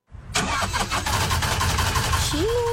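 A car engine cranks with a rapid chugging starter rhythm, then catches and settles into a steady, rumbling idle, fairly loud with no voices.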